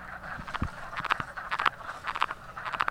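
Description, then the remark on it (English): A chorus of wood frogs giving mating calls, short clucking croaks overlapping in irregular bursts from many frogs at once, steady and moderately loud with no talking. “What you're hearing from everyone else is their typical mating call.”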